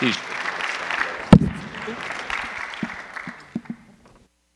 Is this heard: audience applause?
yes